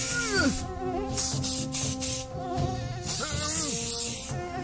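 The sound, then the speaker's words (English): A mosquito's thin, high-pitched whine buzzes continuously, its pitch swooping up and down as it flits, with no voices present. “Mosquitoes have been around for 75 million years, and they've changed very little.”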